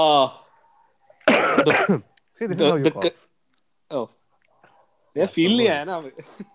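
A man coughs in several rough, throaty bursts, separated by short pauses, with no talking in between.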